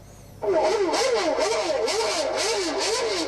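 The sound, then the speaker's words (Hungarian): Formula 1 car engine sounds play from a tape player during lunch among a German group of fans arriving in Hungary for the weekend Formula 1 race at the Hungaroring, a loud high-pitched whine that cuts in abruptly and keeps swooping up and down in pitch, with no talking. “A Magnóból is a Forma 1-es autók hangja szólt ebéd közben ennél a német társaságnál.”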